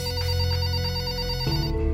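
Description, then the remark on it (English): A telephone rings with a steady electronic ringtone for an incoming call, its melodic tone shifting pitch partway through, fairly loud with no voices. “I never heard anything different until I got a phone call from a friend.”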